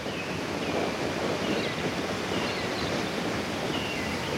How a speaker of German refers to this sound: Da, ein richtiger Wasserfall. Einige Meter rauscht das Wasser an der Felswand in die Tiefe und wir stehen ganz oben am Ufer.